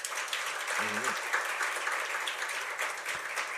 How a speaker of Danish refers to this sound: Så har vi årsrapporten. Det er jo straks værre. Er der nogen, der har lyst til at ytre sig her? Hvis man klapper, så er den også taget til efterretning.